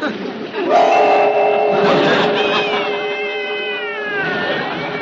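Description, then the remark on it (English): A cat meows in long, drawn-out, wavering cries, fairly loud, with the pitch sliding and bending as the mewing continues for several seconds. “Meow, meow yourself.”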